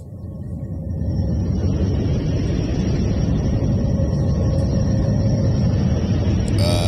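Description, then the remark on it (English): A space recording of Neptune: a dense, steady low roar like rushing wind, with faint thin whistling tones above it. It holds constant throughout, ending in a brief crackle. “No, that is Neptune.”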